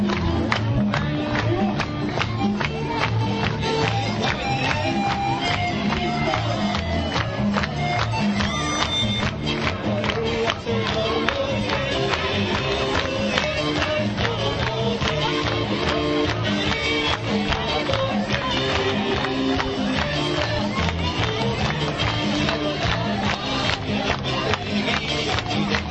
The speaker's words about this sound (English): Crowd are clapping along. A very happy Tulare crowd.